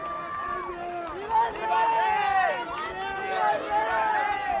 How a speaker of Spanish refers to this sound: Los Reyes han sido recibidos con aplausos y vítores por una multitud, muchos de ellos jóvenes.